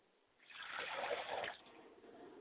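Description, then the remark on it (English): Liquid is poured out as a libation to the east, a steady trickling splash lasting about a second before it tapers off, with a faint background hiss and no talking. “And I pour libation to the east, and I say libation.”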